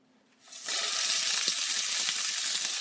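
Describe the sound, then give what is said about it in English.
After a brief quiet moment, duck seasoned with salt, pepper, dill and rosemary hits a hot pan and a loud, steady sizzle takes over, a dense crackling hiss that continues without pause until the end. “All right, and then I'm about to put them in the pan.”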